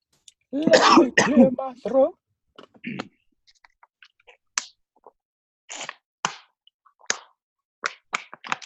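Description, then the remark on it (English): A loud, rasping burst of throat clearing and coughing lasts about a second and a half, then gives way to a scattered series of sharp, dry clicks and snaps with quiet gaps between. “Hold on, I got something in my throat.”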